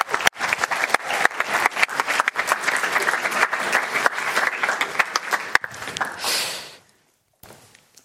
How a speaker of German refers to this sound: Okay, stark, dicken Applaus, ihr dürft euch alle wieder hinsetzen.